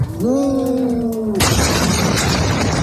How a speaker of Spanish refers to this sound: Explosión.